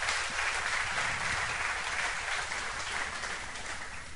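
A crowd applauds steadily, a dense wash of many hands clapping at once that holds a fairly even, full loudness throughout with no voices over it.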